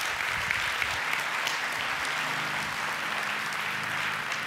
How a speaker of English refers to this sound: Go ahead and give the Lord a hand clap of praise if you received anything.